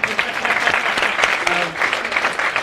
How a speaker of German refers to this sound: Alle wollen jetzt klatschen. Aber klatschen dürft. Ihr dürft einmal.